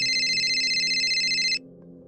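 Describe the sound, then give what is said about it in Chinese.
A loud, steady electronic mobile phone ring tone sounds for about a second and a half as people begin singing the birthday song with the lights off, then stops abruptly, leaving a low background hum. “当大家开始唱生日歌嘅时候，突然间我妈咪嘅电话就响起。”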